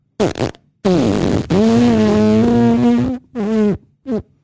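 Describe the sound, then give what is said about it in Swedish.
A girl makes her best fart noises by blowing wet, buzzing raspberries with her lips: a couple of short bursts, then a long sustained raspberry, followed by two more brief ones, loud. “Kan du göra ditt bästa pruttljud nu när vi stänger av?”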